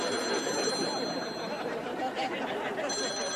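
A telephone rings with a steady, shrill bell tone that carries through the whole stretch, fairly loud, over a dense wash of background noise and faint murmuring voices.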